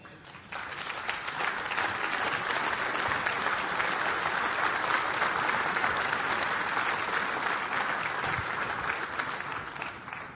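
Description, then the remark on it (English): A large audience applauds steadily, a dense, even wash of many hands clapping at once that holds a strong, constant level for about ten seconds with no talking over it. “It is ironic to me that I could have said race and class anywhere in our movement and got clapping.”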